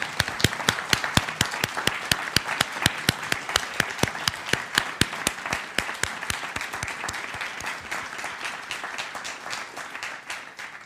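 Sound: audience applause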